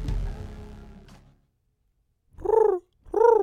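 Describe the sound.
A human voice imitates a pigeon with two short, warbling coos, each rising and falling in pitch, after a low rumbling sound fades out into a brief silence, during a bird joke segment on CITR 101.9 FM radio.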